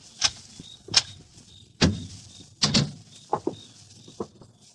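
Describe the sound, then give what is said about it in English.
A door being opened: several sharp clicks and latch rattles, a heavier thud of the door moving, then a few short high squeaks as it swings. No one speaks. “Now open the door”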